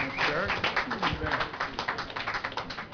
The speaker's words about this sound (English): And let's all give Valero a round of applause for this work. Thank you.